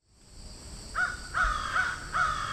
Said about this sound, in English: There are a number of crows flying about here. The scientific name is corvus. They're pretty impressive birds. This one on the sidewalk is pretty big.